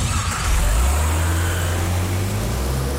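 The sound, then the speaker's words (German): In a Citroën radio advert, a car engine runs steadily, a low rumbling drone with a slight rise in pitch partway through, like a vehicle pulling away and driving on. “Guten Tag, ich suche ein neues Auto. Wie wär's denn mit dem hier?”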